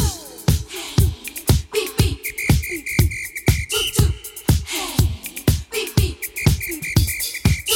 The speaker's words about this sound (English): I just gave you some whistles